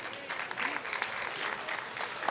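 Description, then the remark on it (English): An audience claps steadily to thank the presenters, a dense, even patter of many hands sustained at moderate loudness throughout, with no voices standing out. “Please join me in thanking the presenters”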